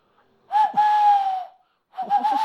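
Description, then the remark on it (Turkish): A person imitates a dove's call by blowing into cupped hands: a hollow, breathy cooing, one long steady hoot, a short pause, then a second, wavering coo, fairly loud. “Ben şimdi sayısız yeteneklerimden bir tanesi olan kumru sesi çıkartabilme yeteneğime sanırım bir fırsat buldum.”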